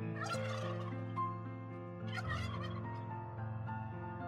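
Two rapid, warbling turkey gobbles ring out in a music track about turkeys, each burst a rattling cascade of high, throaty notes, over sustained musical tones with a steady instrumental backing continuing beneath and between them.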